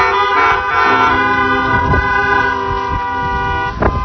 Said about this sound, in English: For those that made a decision, can we get some hallelujah honks this morning?